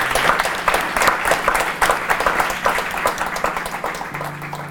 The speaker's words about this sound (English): So let's give Simon a warm applause for his information.